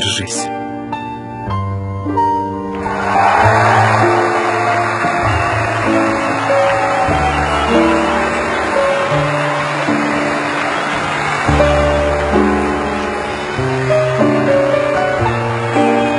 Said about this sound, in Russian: Овации не утихают.